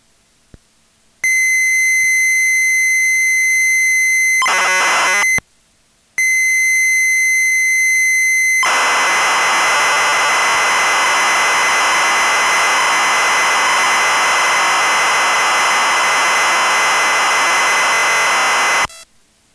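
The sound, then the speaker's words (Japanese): Computer program data tones from a cassette holding an arithmetic play program (Sansu Gokko), to be loaded in BASIC mode: a loud, steady high-pitched leader tone, a brief warbling chirp and pause, then a long harsh buzzing burst of data that cuts off abruptly. “これからは算数ごっこのプログラムが入っています。ベーシックモードにしてロードしてください。”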